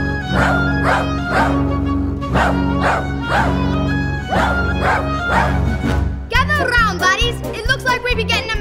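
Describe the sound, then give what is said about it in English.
Dogs bark an all-dog alert from Pongo at Regent's Park, in loud, steady rhythmic volleys about twice a second over a sustained tone, then break into higher, wavering yips and howls near the end. “It's an all dog alert.”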